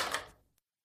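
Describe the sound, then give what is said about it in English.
A door being locked by its owner: a broad metallic clunk that fades over about half a second, then a single short click right after, with no voices. “Shortly after, I heard the owner come up and lock the door.”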